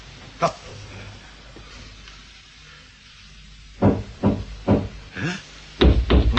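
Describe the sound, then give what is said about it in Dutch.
A single knock on a rocket hull, a long quiet pause, then a loud series of about six knocks in an uneven rhythm toward the end, knocking back in reply. “Ik klop terug.”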